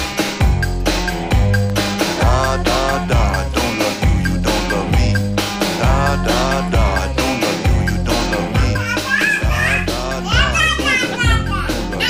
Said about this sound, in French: Des deux jumeaux qui parlent ensemble en faisant da-da-da.